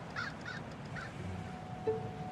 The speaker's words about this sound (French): Et le corbeau s'envole sans plus attendre.